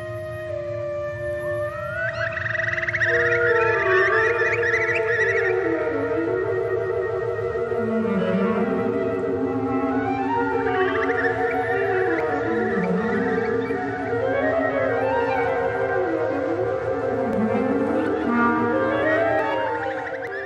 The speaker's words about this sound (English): and wrote a concerto for birds and orchestra. Clearly the birds are music. Let's take a listen, actually, Jonathan, to a little bit of that. This is from the Finnish composer Eino Juhani Rotavara.